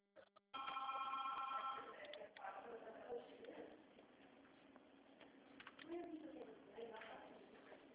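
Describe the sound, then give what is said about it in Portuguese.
A telephone rings with a bright, steady tone for the first couple of seconds as the speaker places a call, then fades into a muffled jumble of background voices and clatter. “Deixa eu te chamar já.”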